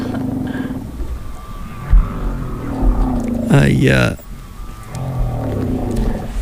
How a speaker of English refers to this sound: So that's just wild whales. What lovely creatures.